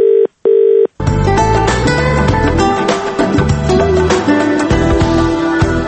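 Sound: telephone answering machine tones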